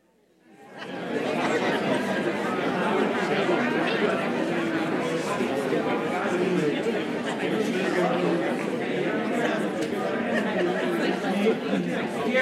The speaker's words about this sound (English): and at the count of three, I want everybody just to talk. Talk loud, talk about anything, talk to your neighbor, talk about the weather, how it stinks today.